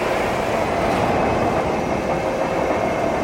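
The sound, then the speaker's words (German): The large white dome of an observatory housing a giant telescope turns on its electric drive: a loud, steady mechanical rumble with a rolling, rail-like clatter that holds evenly throughout, with no voices. “Um den Himmel zu beobachten, kann man heute noch die große weiße Kuppel elektrisch öffnen und drehen.”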